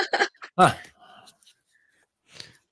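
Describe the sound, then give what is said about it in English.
A dog barks in the background: a few short, sharp, loud yelps close together at the start, followed by fainter scattered noises and one softer burst near the end. “We have dogs too. They want to be interviewed too.”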